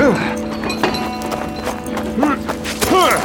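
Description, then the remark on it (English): Stormy, a big Appaloosa horse ridden bareback, bursts out of a makeshift corral and gallops: quick, uneven hoof thuds mixed with rising-and-falling whinnying cries that sound over the hoofbeats at moderate loudness. “Stormy burst out of the corral and launched into a gallop, obeying the commands that Frank communicated with his knees and heels.”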